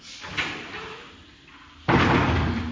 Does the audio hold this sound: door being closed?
yes